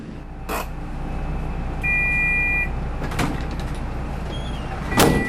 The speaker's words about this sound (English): Bus pulls up at the satellite city of Palmerston and two women get on